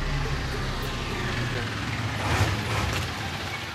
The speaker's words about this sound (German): Morgens um 7 fahren die blau-gelben Laster des Kreuzberger Umzugskombinats Zapfumzüge nah und fern von ihrem Fuhrhof an der Spree